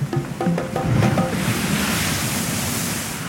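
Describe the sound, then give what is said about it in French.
Waves crash against the coast in a loud, continuous roar of surf that swells early and then washes on steadily, with a few brief higher tones near the start and no one speaking. “Si j'étais un son, je choisirais le bruit des vagues qui éclatent sur la côte ou sur la coque d'un bateau.”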